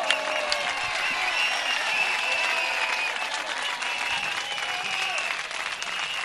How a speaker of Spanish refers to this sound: Aplaudiments espectaculars per aquest excepcional vers.